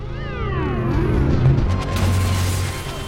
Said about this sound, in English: Mr. Rager draws the pins from several grenades and throws them. An explosion sends a police car flying over Jabari's head.